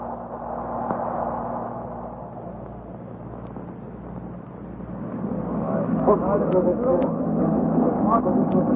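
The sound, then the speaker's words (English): A small motor launch engine drones steadily during a crossing, a continuous low rumble mixed with the churn of rough water in strengthening wind, swelling slightly louder toward the end. “Under the sound of it, that engine needs attention.”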